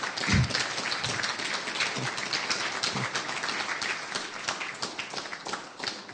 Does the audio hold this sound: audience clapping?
yes